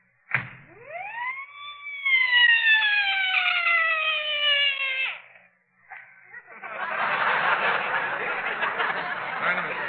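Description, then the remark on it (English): A single loud police car siren wail sweeps up sharply, then slowly sinks in pitch over about five seconds before cutting off, followed by a steady rush of broad, hissy noise. “Put the siren in your pocket and let's go in the department store.”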